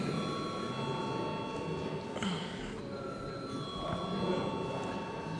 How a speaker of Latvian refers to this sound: Paldies, lūdzu zvanu.